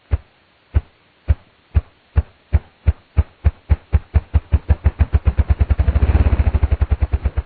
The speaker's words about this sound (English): Listen for a moment to this remarkable drumming of a ruffed grouse.